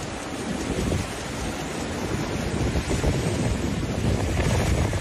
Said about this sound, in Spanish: Es el sonido del mar pegando contra las rocas en la Costa da Morte.